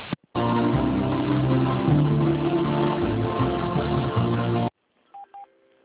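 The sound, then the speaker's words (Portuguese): Telephone tones during a call transfer: a loud, dense, band-limited line sound runs for several seconds, cuts to silence, then two short, clear beeps follow in quick succession. “Vou transferindo ligação.”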